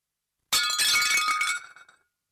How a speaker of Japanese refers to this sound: 出勤前の午前8時、妻がお皿を割った。